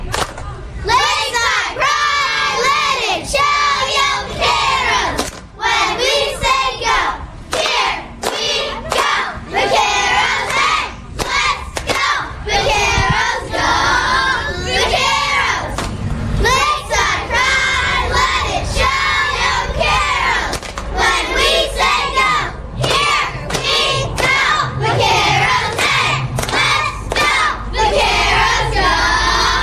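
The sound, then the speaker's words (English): A cheerleading squad chants its competition cheer, "Lakeside Pride," loud in unison, sharp rhythmic shouted phrases with brief pauses, over a steady low crowd rumble throughout. “This is going to be our competition cheer.”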